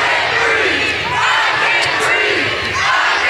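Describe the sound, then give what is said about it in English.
A large crowd in Bloomington shouts and yells together in a loud, continuous roar, shouting down a police chief so that he cuts his comments short; many voices overlap with no single speaker audible above the din. “Bloomington Police Chief … cut his comments short after the crowd shouted him down.”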